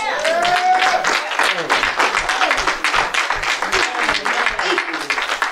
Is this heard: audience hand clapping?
yes